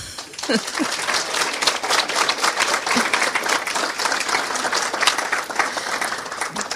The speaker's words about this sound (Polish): Teraz czas na owe brawa.